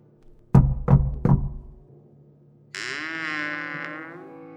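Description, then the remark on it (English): Three loud, evenly spaced, hollow knocks on the wooden door of a hut, followed by a steady buzzing, whirring tone with a warbling pitch that continues to the end. “Do you want us to knock on the door of the hut or not?”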